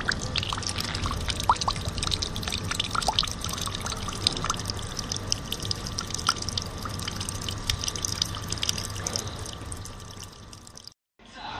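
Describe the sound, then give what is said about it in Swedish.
A drinking fountain drips and trickles continuously, with irregular small drops over a steady background hum; the sound briefly cuts out near the end. “Eller drickfontän som droppar.”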